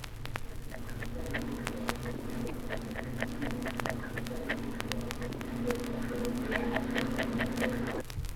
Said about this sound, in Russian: Звуки, издаваемые самкой скаляри при подготовке гнезда, чистит место для откладки икры.